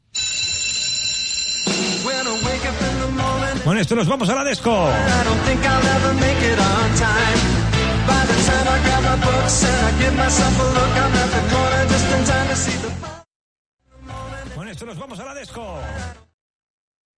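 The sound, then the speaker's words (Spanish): A loud, upbeat TV sitcom theme song, the theme of Saved by the Bell (Salvados por la Campana), plays, drops out briefly near the end, returns, then is cut off early, stopping abruptly partway through. A voice speaks briefly over the music. “le he puesto Salvados por la Campana y se ha cortado”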